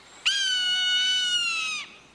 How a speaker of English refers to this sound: When we watch birds, they're often in flight. Snow geese. A soaring Swainson's hawk.